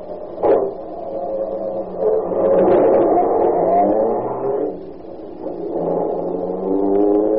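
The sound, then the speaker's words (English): A car just off the boat, with its motor tuned the way they tune them in France, idles and revs. Its loud, droning hum rises and falls in pitch over several seconds, with a short clunk right at the start and no talking. “Hey, listen to that motor.”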